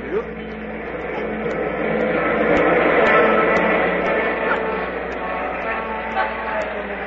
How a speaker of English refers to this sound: Long one, wasn't it? What one was it? It went by so fast I couldn't see it. Well, what was it, the Limited? No, that was the freight train.